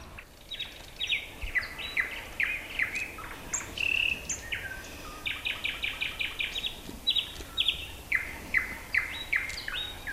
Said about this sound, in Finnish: No nyt tää alkaa olla oma itsensä tää toukari. Kun meistä vasemmalle ja oikealle ja takana on satakieli ja vielä 4 aloitti tuolla ton toisen takana. Että kyllä tää varmasti semmonen paikka on, ettei oikein monta Suomessa tämmöstä olekaan.